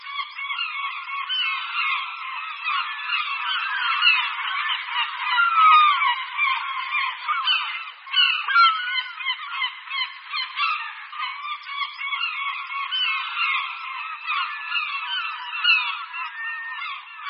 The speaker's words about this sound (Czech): Racek Stříbřitý se řadí k velkým rackům. Velikostí se přibližuje káni a jeho rozpětí křídel je kolem 150 cm. Staří ptáci jsou svrchu světle břidlicově šedí, spodek těla a hlava jsou čistě bílé.